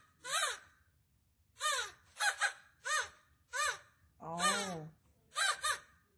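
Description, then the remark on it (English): A black Australian crow calls in Australia: seven loud, nasal caws spaced about half a second to a second apart, one drawn out longer and lower near the end. “Oh, you laughed at the Australian crows for being black”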